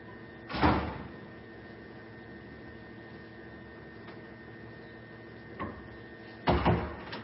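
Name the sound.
door being shut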